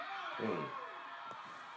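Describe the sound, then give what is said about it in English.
In a wrestling match, the Macho Man slams a heavy metal ring bell once onto Ricky Steamboat's neck with a sharp impact, set against a loud, roaring arena crowd and some indistinct voices. “So what we're seeing there is the Macho Man slamming the ring bell on Ricky Steamboat's neck.”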